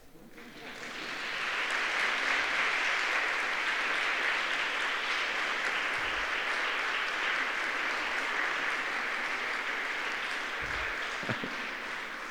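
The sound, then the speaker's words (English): A large group of graduates at a graduation ceremony, standing and facing their families to thank them, clap their hands together in dense, sustained applause that swells within the first second or two and holds steady and loud for about ten seconds. “And I'd like you to thank them with a hand clap.”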